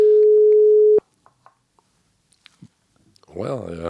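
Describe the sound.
A single steady telephone ringback tone sounds loudly for about a second while calling a mobile phone, followed by a few faint clicks and then a recorded Telenor voicemail greeting that begins speaking.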